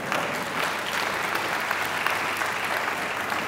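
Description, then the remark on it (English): An audience breaks into steady applause, a dense, even wash of many hands clapping at a moderate volume for several seconds without pause. “I thought you'd clap for that.”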